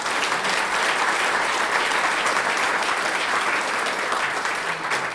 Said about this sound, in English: I think a round of applause for him.